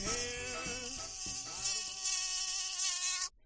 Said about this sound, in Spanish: Llegas al dormitorio cansado y con sueño. Te metes en la cama, apagas la luz y cuando cierras los ojos para disfrutar de un plácido sueño, escuchas al dichoso mosquito.